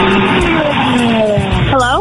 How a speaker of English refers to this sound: I am in my car rocking out, vacuuming it. Oh, you're vacuuming it? Okay. It sounded like you were going very fast somewhere. A vacuum makes way more sense.